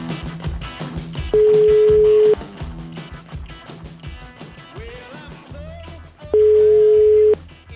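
Two long, steady beeps of an outgoing call's ringing tone, each about a second and spaced several seconds apart, sound loudly over busy background music and faint voices.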